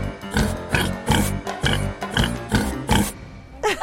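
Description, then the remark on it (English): A voice mimics a pig with a quick, steady run of loud grunting oinks, about seven or eight in a row, over background music. “Oink, oink, oink, oink, oink.”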